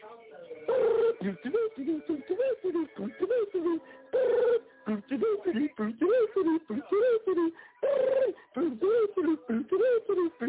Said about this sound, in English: Answer your damn phone, man. It got an ugly damn sounding ringer, man. I don't like the sound of your ringer, man. Answer the phone.